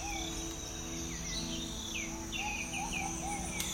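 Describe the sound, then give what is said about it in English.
Rainforest jungle ambience: a steady, layered drone of buzzing insects and crickets, with several birds calling in short rising and falling chirps and whistles scattered throughout. No voices. “The sounds of the jungle all around you.”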